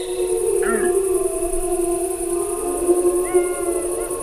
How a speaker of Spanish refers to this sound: Bueno, yo creo que estos son lobos adultos los que hacen estos aullidos así graves. Lo hacen para comunicarse con otros de la manada.